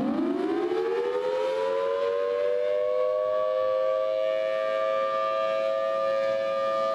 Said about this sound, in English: what should people do when they hear the storm sirens? So that that drill is on Wednesday. I believe it's at 1 p.m. And what you should do is the sirens are going to go off statewide.